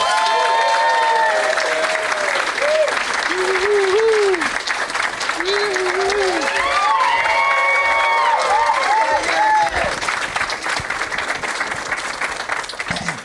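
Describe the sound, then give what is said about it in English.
A crowd claps loudly and steadily for about thirteen seconds to welcome guests Chad Opitz and Danny Jollis, with rising and falling whoops and cheers scattered through the dense applause and overlapping voices. “Please welcome them, Chad Opitz and Danny Jollis.”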